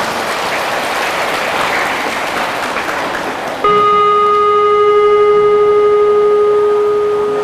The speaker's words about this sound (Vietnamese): Nếu được thì hãy dâng cho một tràng vỗ tay thật lớn nào.